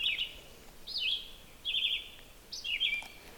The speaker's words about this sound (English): This bird, I think, is still on the nest, probably feeding young, but this male red-eyed vireo just sings continuously.